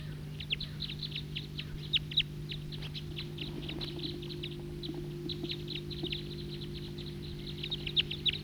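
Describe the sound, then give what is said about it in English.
A male bird, one of a pair that sounded like type 2, perched in a tree, calls with a rapid, steady series of short, high-pitched chips lasting the whole clip, moderately loud over a constant low droning hum. No one speaks. “And there's another male calling there.”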